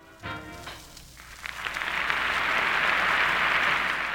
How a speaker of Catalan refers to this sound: Gràcies per l'aplaudiment.